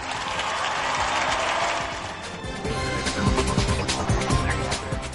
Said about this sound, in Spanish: Agradezcámosle a Jesús con otro fuerte aplauso.